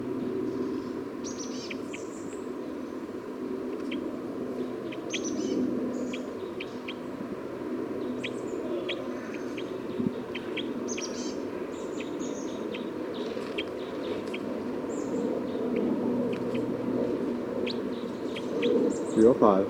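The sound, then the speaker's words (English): Bird 305, recorded again, calls in quick, high-pitched chirps and tweets, scattered irregularly across the whole recording over a steady low hum and background noise, with a brief louder rustle at the end. “Recording bird 305 again.”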